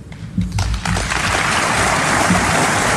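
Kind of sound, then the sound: crowd, audience applause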